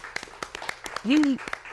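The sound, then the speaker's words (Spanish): At a live event at Beamina in Puerto Rico, a small crowd claps in quick, uneven bursts of sharp hand claps, and a brief rising-and-falling voice, like a cheer, rings out in the middle of the applause. “Un aplauso para... Muchísimas gracias.”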